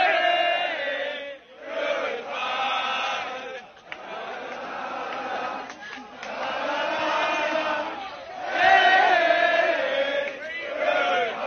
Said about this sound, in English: They're pretty happy about this. There's a whole crowd of college students that are singing and waving goodbye to the protesters as they are being removed from whatever particular area on campus they were.